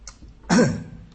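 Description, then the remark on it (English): A single harsh, throaty cough from an audience member during an evening talk, preceded by a faint short huff, with no talking around it. “Coughing's in tonight, isn't it?”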